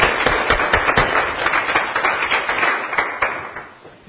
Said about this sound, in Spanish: Dámosle un aplauso a los hermanos.